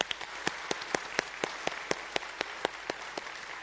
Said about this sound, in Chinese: 我将掌声归给耶稣好吗？